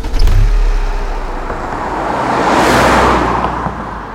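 car driving away

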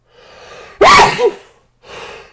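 sneeze

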